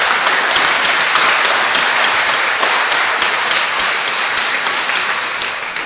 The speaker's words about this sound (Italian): Noi c'è una coppia appena sposata, credo se non sbaglio di Apecchio, che sono qui per fare la luna di miele. Se ci sono, vi prego di alzarsi in piedi e di fare un mega applauso a questi sposi.